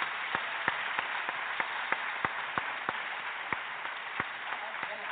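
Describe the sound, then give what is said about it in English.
Sparse, uneven clapping from a small audience for NASCAR driver Ricky Craven, individual sharp claps popping out steadily over a hiss of background noise, fairly quiet, with no one speaking. “And last but certainly not least, let's give a round of applause for Ricky Craven, who entered the record books in 2003 with the closest finish in NASCAR history at Darlington by 0.002 seconds.”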